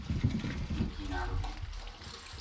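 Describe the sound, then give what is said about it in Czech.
Outdoor ambience drifts in through an open window: a steady low rumble with soft, indistinct voices murmuring underneath and a brief tonal chirp midway, fairly even in loudness throughout. “Otevřené okno.”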